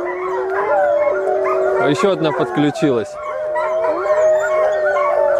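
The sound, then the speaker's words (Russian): Several dogs at an animal shelter howl together in a sustained, overlapping chorus of wavering tones, broken briefly in the middle by sharper yips and a short spoken remark from a person. “Вот сейчас у них какая-то тема началась, они все завыли.”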